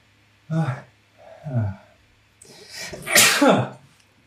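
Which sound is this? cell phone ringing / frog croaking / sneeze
sneeze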